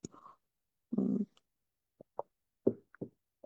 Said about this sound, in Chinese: 你喝口水，我也喝口水。我想一下，干杯。